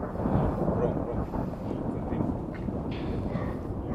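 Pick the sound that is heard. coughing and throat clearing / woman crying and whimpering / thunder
thunder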